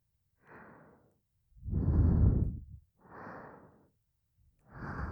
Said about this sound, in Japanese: ふわふわベッドの中で私たちの吐息を感じて。